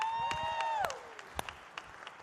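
Scattered hand clapping from an audience, loudest at first and thinning out over about two seconds, with a sustained whooping cheer that slides downward in pitch near the start.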